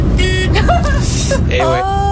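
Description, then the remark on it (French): A weak, thin car horn gives a few short, feeble honks in quick succession over a steady low engine rumble. “Il y a ceux qui ont, là, avec leur gros camion, qui ont un gros klaxon, quoi, ils font pan, pan, ou les gros bateaux, là.”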